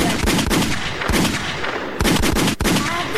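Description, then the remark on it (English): A gunshot sound effect: a rapid series of loud gunshot blasts, several sharp cracks spaced irregularly over a few seconds, booming against a dense, noisy backdrop with no talking. “Lakewood means rewind. The gunshot means forward.”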